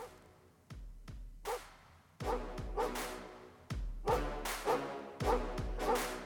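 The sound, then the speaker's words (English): Sharp dog barks pop out in quick pairs over a punchy electronic beat with deep thumping kicks, repeating rhythmically throughout as new intro music for a weekly segment, fairly loud. “Dogs barking? That can only mean one thing. Yes, it is some new intro music for everyone's favorite segment of the week.”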